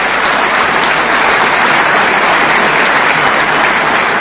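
Steady, dense applause from an audience, a continuous crackling wash of many hands clapping at an even loudness with no voices on top.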